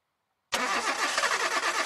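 A car engine cranks and catches after a half-second of silence, then runs loud and steady, with a dense, rumbling roar and no voices.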